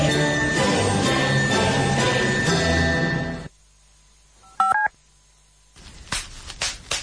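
bubble wrap popping

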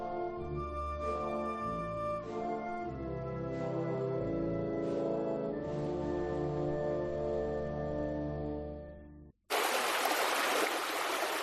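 running water

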